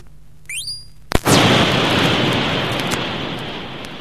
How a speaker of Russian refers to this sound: Да у меня же где-то было огниво. Где же оно? Вот, нашел. Сейчас ударю по кремню.